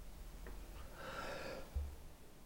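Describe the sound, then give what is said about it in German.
A single soft, breathy cough, a short rush of air followed by a faint low thump, with no talking around it. “Ich hoffe so sehr für unsere Hörer, du hustest ich huste, nicht ich so ich versuche ins oft nach rechts zu husten.”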